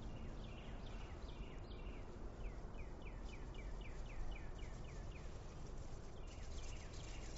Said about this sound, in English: Birds singing.